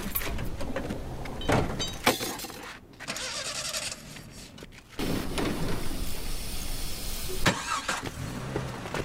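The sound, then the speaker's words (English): An old Jeep's engine cranks and sputters to life, then settles into a loud, rough idle, with a few clunks and rattles of the car body mixed in. “We can all squeeze in the Jeep, right?”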